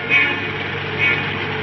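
A city bus rolls through traffic, its engine and road noise a steady, even rumble, broken by two short high-pitched squeals about a second apart.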